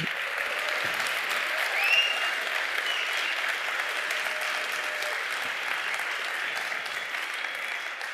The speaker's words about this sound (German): Und vielleicht machen wir nochmal einen Applaus, damit die das auch hören.